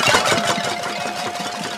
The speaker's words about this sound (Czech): Tak jak můžete slyšet, tak jsme se přesunuli ven na hřiště a momentálně tady bubnují desítky dětí i … v čele. Bubnují na různé bubny, ale i hrnce, talíře a kbelíky a je to rámus.